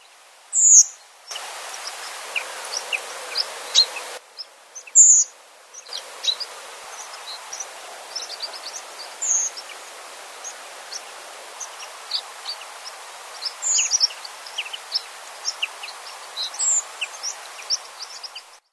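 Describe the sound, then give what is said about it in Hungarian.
A redwing sings with thin, sharp, high notes at spaced intervals, standing out over a busy background chorus of faint chirps and twitters from other birds outdoors. “Most pedig hallgassuk meg a valamivel kisebb és ritkább, de annál szebb szőlőrigót.”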